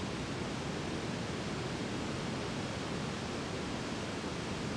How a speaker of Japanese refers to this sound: 地図にあったけど、こんな山の中に滝があるんだね。